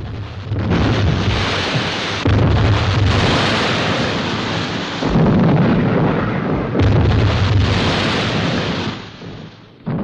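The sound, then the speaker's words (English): Shells burst in the water around a signalling warship in a loud, continuous barrage: heavy booms follow one another every couple of seconds over a roaring, spray-like rush. No voices are heard. “The warship continues to signal as bursts of spray erupt in the water around it.”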